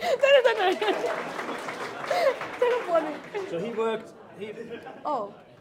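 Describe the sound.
Audience applause, a steady wash of clapping mixed with several voices talking and laughing over it, tapering off slightly toward the end.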